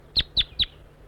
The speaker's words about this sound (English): Calling to the wild bird.